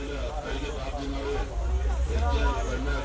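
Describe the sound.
A busy city street in Jordan with a steady wash of overlapping crowd chatter, many voices murmuring at once over a low rumble of traffic, fairly loud and continuous throughout.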